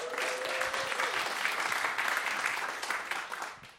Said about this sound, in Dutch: Geef haar een applaus.